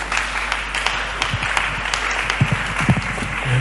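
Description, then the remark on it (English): A church audience on its feet claps their hands for Jesus while welcoming Pastor Tunjade Dokun, a steady, dense wash of applause at moderate loudness without any voices standing out. “Let's rise up on our feet as we welcome Pastor Tunjade Dokun to round us off. Let's clap our hands for Jesus.”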